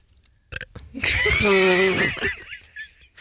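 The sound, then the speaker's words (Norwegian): A single loud burp stretches out for about a second with a rough, voiced rumble, preceded by a few quick clicks and followed by faint mouth noises. “Bra rap.”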